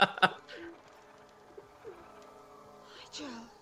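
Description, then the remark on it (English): A pigeon or dove coos softly a few times, low throaty calls spaced out over a few seconds, after a couple of sharp clattering knocks at the start. “And you know for a fact that there was a bird in that yeah. tissue yeah. this entire time.”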